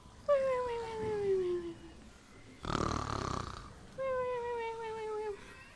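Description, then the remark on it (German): A voice imitates Jona (Jonah) snoring as he falls asleep: a long, falling whistle-like tone, a short raspy snort in the middle, then another drawn-out descending whistle. “Und Jona wird müde und schläft. Schließlich ein und schnarcht.”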